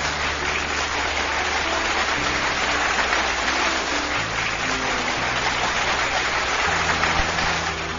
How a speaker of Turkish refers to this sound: Gerçekten çok güzel bir şiirdi. Kocaman bir alkış gelsin sana.